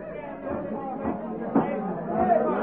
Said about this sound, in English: This is the crowd from Cork. They were really bugged because they had lost that ball game. They figured that by singing loudly, they could undo it. It didn't help.